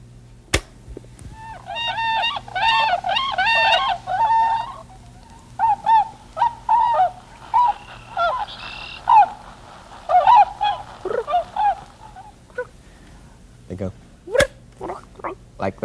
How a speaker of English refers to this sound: Now, that was a whistling swan.